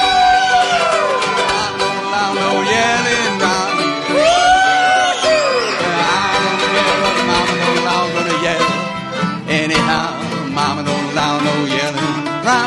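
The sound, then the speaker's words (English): A crowd yells and whoops loudly all at once, many overlapping voices rising and falling in a sustained, noisy burst that fills the whole stretch without a break. “Well, Mama don't allow no yelling around here.”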